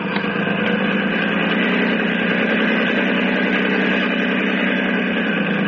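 A motorboat engine idles loudly and steadily, a constant low mechanical rumble with a thrumming, vibrating drone that holds without pause throughout. No voices are heard.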